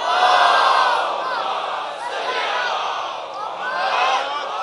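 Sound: crowd loudly chanting salawat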